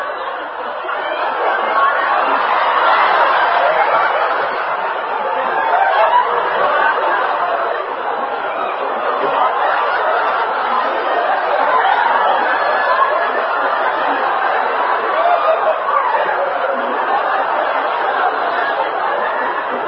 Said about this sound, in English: Small monkeys.